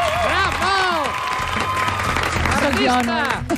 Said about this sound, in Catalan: Vinga, va, un aplaudiment per la Montse Marcon!